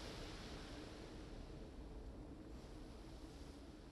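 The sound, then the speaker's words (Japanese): Soft, steady wash of sea waves rolling in, a continuous low rumble with no distinct breaks, fairly quiet and even throughout, with no voices. “それで失恋の傷を癒しに静かな海を見に来たってこと？”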